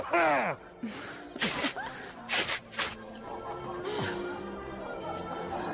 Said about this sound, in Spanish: Me estornudaron.